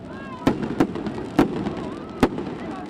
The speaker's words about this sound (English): 6 years after the last guns fell silent, the sound of fireworks still makes Sarajevans a little nervous.